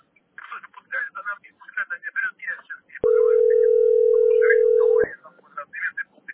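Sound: telephone dial tone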